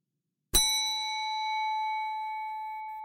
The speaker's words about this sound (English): The bell rang, and everyone quickly took their first position.